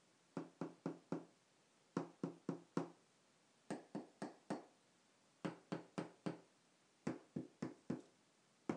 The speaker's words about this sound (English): I'm going to wrap my fingers against the tile floor, and you'll notice some of them sound different.